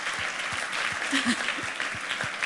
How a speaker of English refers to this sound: You probably shouldn't be applauding that, guys. That's not healthy.